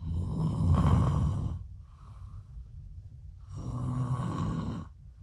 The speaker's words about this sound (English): Is it me snoring? You're snoring so loud.